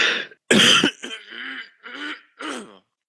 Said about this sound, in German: Entschuldigt mich mal, ich muss mich mal kurz räuspern.